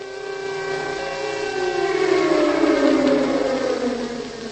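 An air raid siren wails steadily in Prague just before midday on 14 February 1945, its drawn-out tone slowly sliding downward in pitch, captured in a Czech broadcast of the time. It sounds muffled, like an old, narrow-band recording, with no voices.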